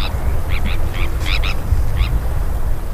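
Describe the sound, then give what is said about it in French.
Terns in the Bay of Morlaix in spring give a series of harsh, rasping calls, several birds calling in quick bursts over a steady low rumble of wind or surf, loud. “donc l'ambiance de la baie de Morlaix au printemps est pas mal occupée justement par les sternes qui sont très bruyantes. Elles communiquent entre elles, non seulement sur la colonie, mais également sur les zones de pêche, on peut les entendre crier.”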